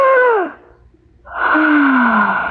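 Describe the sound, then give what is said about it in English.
A woman on a sofa gasps twice for breath, loud, each gasp voiced and sliding downward in pitch, with a short near-silent pause between and the second gasp drawn out longer. “She gasped twice there on my sofa.”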